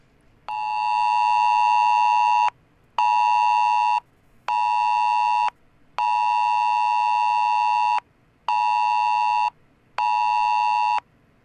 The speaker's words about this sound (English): Okay, we have the actual ringtone or whatever it's called that we'll play. Alex, hold your phone up to the microphone and let's hear what this sounds like.